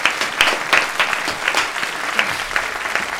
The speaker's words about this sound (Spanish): Un aplauso para todos nuestros contertulios, por favor. ¡Bravo, bravo!